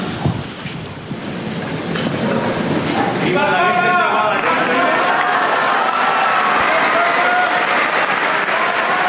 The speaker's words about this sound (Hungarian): Nem maradt el a mai napról sem a taps, és ezáltal a Szent Atya köszöntése és megköszönése az ő áldásának.